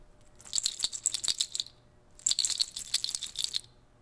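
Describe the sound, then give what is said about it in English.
Deer toe jangles rattle on a bag embellished with deer toes and 14-karat gold beads, in two brisk shaken bursts separated by a short pause, a bright clattering of many small hard pieces, with no talking. “but it's embellished, the bag itself is embellished with the toes of deer.”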